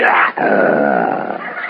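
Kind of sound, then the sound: vocal imitation, imitated lion roar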